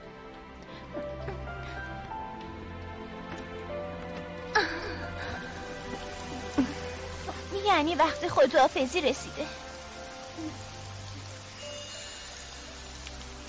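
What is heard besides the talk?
rain falling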